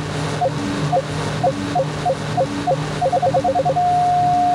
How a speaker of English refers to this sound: the onboard computer will indicate the right time to shoot with an audible and visual signal. Tap to shoot, but don't wait too long or the enemy will escape. The correct time to shoot is when the beep is continuous. This is the sound you will hear.